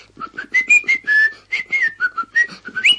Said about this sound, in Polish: Słuchamy, co to? Kto to był? Kto to był? Jeszcze raz, a tu w piwnicy nasz kos śpiewa. Ja tego kosa nauczyłem śpiewać.